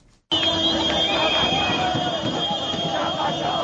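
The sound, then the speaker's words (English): A dense crowd of Zimbabweans in Harare cheers and shouts over sustained, steady car horn blasts, celebrating President Robert Mugabe's resignation, with whistles and scattered yells rising above a loud, continuous roar of celebration. “The wild cheers and car horns of Zimbabweans celebrating the end of Robert Mugabe's iron-fisted rule.”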